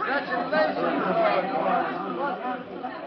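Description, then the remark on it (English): A crowd of voices erupts in excited, overlapping chatter, many people talking at once in a steady, lively babble of congratulations, as Perry White, Jimmy Olsen, Daily Planet employees and courtroom spectators crowd around Lois in a Superman story after her vindication. “Jubilantly, Perry White, Jimmy Olsen, employees of the Daily Planet, and spectators crowd around Lois, congratulating her on her complete vindication as Superman and Robin slip from the courtroom.”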